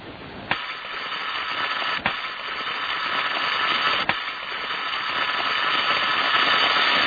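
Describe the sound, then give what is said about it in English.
A steady, harsh buzzing tone from a telephone receiver driven by a vibrating spring, the sound Bell had always heard from the receiver, droning on without pause, broken by three sharp clicks. No one speaks. “This is the sound that Bell had always heard from the receiver when he had been listening before.”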